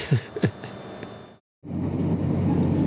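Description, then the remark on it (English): A train rumbles steadily along the railway line in the Highlands, arriving at the highest and most remote railway station in the UK, a broad mechanical roar that cuts out for a moment and then resumes just as loud. “We'll be arriving in a moment at the highest and most remote railway station in the UK, Karura.”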